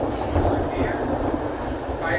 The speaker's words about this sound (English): Fireworks. As you can tell, it sounds like fireworks almost. The thunder.